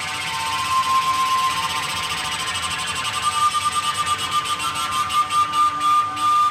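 Tarek Atoui's sound installation at Kunsthaus Bregenz, played on self-built flutes and whistles made from copper pipes lying on the floor: a dense, buzzing drone of layered ringing pitches with a thin high whistle, turning into a rapid, throbbing pulse that grows stronger in the second half.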